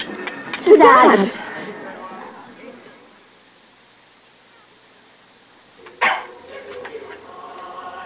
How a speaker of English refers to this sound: do we have to have this dog in here? He should be out in his kennel. Well, it is Christmas Day.